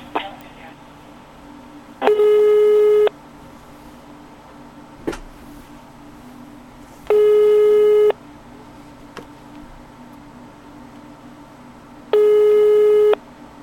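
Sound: telephone tone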